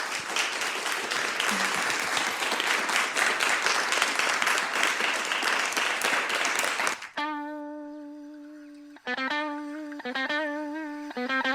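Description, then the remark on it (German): A crowd applauds the podium guests after a discussion evening with audience questions, loudly and steadily for about seven seconds, a dense wash of clapping, then it cuts off and a sustained, buzzy synth tone with a rising melodic line takes over. “Vielleicht können wir nochmal applaudieren für alle.”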